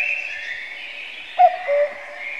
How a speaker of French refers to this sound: Le coucou, bien sûr, c'est une onomatopée. Le son qu'il fait lui a donné son nom, et c'est aussi grâce à lui qu'on se dit coucou pour se saluer.